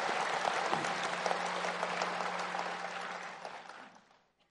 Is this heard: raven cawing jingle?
no